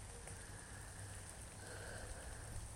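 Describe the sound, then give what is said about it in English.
Steady rain falls outside on a rainy day heading into the Memorial Day weekend, a soft continuous hiss with faint patter over a low background hum, fairly quiet, with no one speaking. “On a rainy day, heading into the Memorial Day weekend.”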